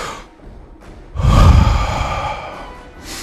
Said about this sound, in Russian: Вот все то, что сейчас, чем дышит Москва. Вдохните поглубже.